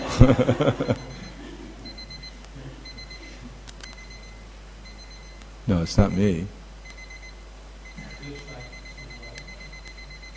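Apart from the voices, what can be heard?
alarm clock ringing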